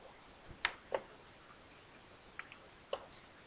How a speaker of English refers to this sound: Listen. Is a clock.